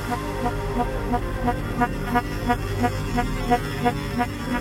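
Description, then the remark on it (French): A clogged vacuum cleaner motor, its hose blocked by a grouper that got its head stuck in it, strains and races, giving off a loud, steady tonal whine with a quick, regular pulsing throughout, with no one talking. “L'aspirateur est bouché. Le moteur s'emballe.”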